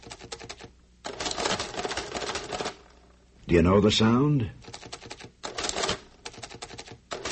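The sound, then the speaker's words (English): Rapid mechanical clacking from an adding machine comes in several dense, rattling bursts of keys and levers, pausing briefly while a voice asks a short question before the clatter resumes. “It's an adding machine.”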